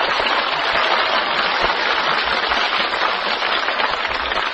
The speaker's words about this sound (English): Between 2 and 3, all right. Your applause only for number 2,